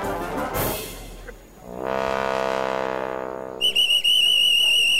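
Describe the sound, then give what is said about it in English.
A loud, deep droning horn blares for a couple of seconds, then a shrill whistle, blown by a minister's personal assistant to alert his team that the ministerial convoy is fast approaching, cuts in with a few quick blasts before a sustained, trilling blow. “The whistle is Sandeep, the minister's personal assistant, alerting his team that the ministerial convoy is fast approaching.”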